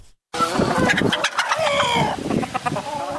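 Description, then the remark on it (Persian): A dense chorus of many chickens clucking and squawking together on a poultry farm of over 1,000 hens in a yard in Nili, Daykundi, central Afghanistan, continuous and fairly loud, with overlapping calls and a brief rooster-like crow rising out of the din. “بیشتر از 1000 مرغ را نگهداری می کند.”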